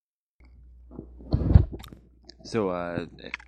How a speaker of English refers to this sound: So yeah, it's doing pretty well. So, that's chewing up the food right now. That's a fucking dog.